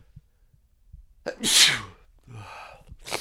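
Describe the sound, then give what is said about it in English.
A man sneezes once, loud, with a sharp inhaled buildup followed by an explosive burst, then a brief breathy exhale afterward. “You found out exactly what I sneeze like.”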